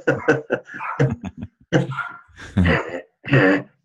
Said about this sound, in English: I'm going to let him finish barking and edit this section out. 4 pounds of world domination.